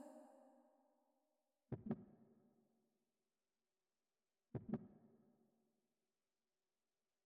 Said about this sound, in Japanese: 私の心臓の音、聞こえるでしょ？